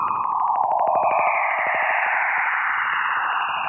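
Jupiter's radio waves, detected by NASA's Juno spacecraft in August, turned into sound: a loud, steady electronic screech and hiss, with a rapid buzzing pulse in the first half that smooths into a sweeping, windy roar. No voices.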